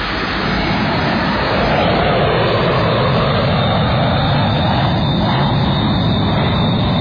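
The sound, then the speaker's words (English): Steady, loud airplane engine drone fills the whole stretch, a dense continuous roar with a low rumble underneath and no voices. “Okay, that doesn't weird me out, but airplane noises really bug me.”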